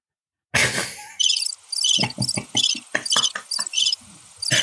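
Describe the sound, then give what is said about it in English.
A cricket chirps loudly in quick, repeated high-pitched bursts, with a few soft low knocks underneath and a brief noisy rush at the start. “Is that Jiminy Cricket?”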